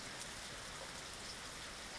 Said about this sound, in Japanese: 雨音はピタッピタッと落ちてくる音や、カタカタと音を立てる葉っぱの音、バシャバシャと音を立てる水たまりの音みたいに、いろんな音が混ざり合って、とても美しい音がするんだよ。